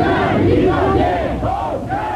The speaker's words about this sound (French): Henri Giraud est donc reparti au volant de sa voiture en tentant de se frayer un passage au milieu de dizaines de LIP, criant et tapant dans les mains.